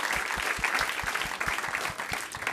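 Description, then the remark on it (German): An audience applauds for the speakers' dog with steady, dense clapping that holds at an even, moderate loudness throughout, many hands blending into a continuous patter with no voices on top. “Und dann einen großen Applaus für unseren Hund.”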